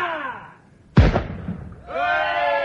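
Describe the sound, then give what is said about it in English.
A single loud cannon shot fired in salute bursts out with a sudden boom and a rumbling decay, set between sustained tonal sounds that fade before the blast and swell again after it. “Command the cannon to fire in salute.”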